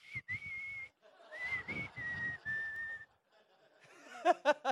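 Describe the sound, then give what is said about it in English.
Someone whistles a short tune, a few clear held notes that step up and down in pitch, followed by a brief burst of chuckling laughter. “You know, I would have whistled.”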